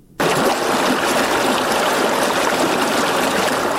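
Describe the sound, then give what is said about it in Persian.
The Kokcha River at Faizabad, Badakhshan, Afghanistan rushes loudly and steadily, the broad hiss of flowing water starting abruptly and continuing without a break, with no voices. “هر صبح و شام از رودخانه کوکچه ماهی میگیرد.”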